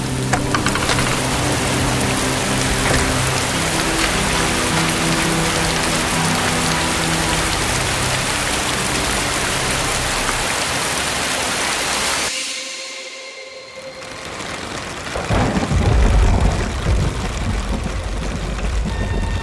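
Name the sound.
heavy rain falling outside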